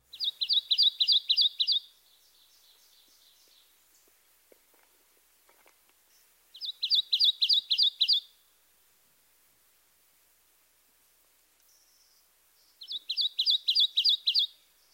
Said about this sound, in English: Our third two-noted vocalization is the song of the Kentucky warbler. Listen to his repetitious chirree, chirree, chirree, chirree. This is a musical whistle with a lively bounce.